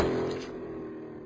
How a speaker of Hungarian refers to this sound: Motorzaj.